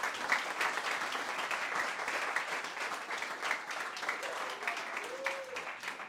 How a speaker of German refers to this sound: Ich finde nochmal einen großen Applaus.